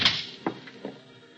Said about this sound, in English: I waited off the stairway landing and watched the elevator door open.